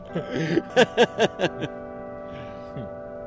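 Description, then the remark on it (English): Campus bells at St. Mary's College in Moraga, California, chime twelve o'clock in a quick run of ringing strokes, their tones hanging and humming on in a sustained resonance after the strikes fade, with faint background murmur. “It's 12 o'clock at St. Mary's College.”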